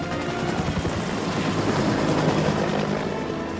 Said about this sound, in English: The helicopter tears through the night sky in hot pursuit.